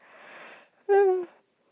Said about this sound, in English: Of course, I've got to yawn now.